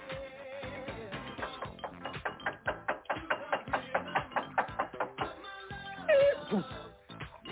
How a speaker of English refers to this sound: You've been knocking on the door for about like 10 minutes now.